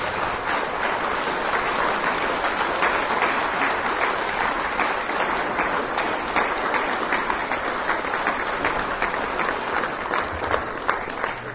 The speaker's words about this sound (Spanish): A él un aplauso y la gloria. Amén.